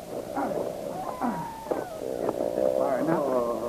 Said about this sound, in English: Go on, groan, Philip. You'll be screaming once you hear the wolves.